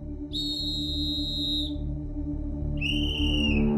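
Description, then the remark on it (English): Two long, shrill blasts from an emergency whistle blown as a call for help at sunset by a person stranded on a ledge, the first over a second long and the second following after a short pause, both sounding over a steady low rumble. “I blew my whistle, and it was very faint, but I started blowing my whistle like crazy.”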